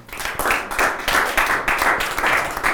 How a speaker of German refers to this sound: Lasst uns Jesus einen Applaus geben dafür.